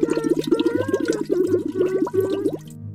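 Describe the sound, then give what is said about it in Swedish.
Rapid, continuous bubbling in water as a goldfish blows a steady stream of bubbles, fairly loud, with watery gurgles and small rising pops for about three seconds; no one speaks. “Bubbla inte så där din guldfisk. Du skräms.”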